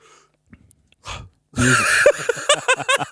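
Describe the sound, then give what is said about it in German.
A person lets out a loud, drawn-out yawn that begins with a breathy intake and swells into a strained voiced groan, tapering off in a few short stuttering exhales. “Ich habe einfach mal gegähnt.”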